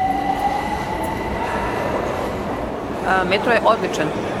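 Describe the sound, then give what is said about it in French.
Ambience of the underground Vukovspomenik railway station in central Belgrade with a regional train present: a steady, loud mechanical rumble and a thin tonal whine, then a few brief high-pitched squeals toward the end. “ce n'est pas le métro qu'attend Nevanka sur un banc, mais seulement l'un des rares trains régionaux”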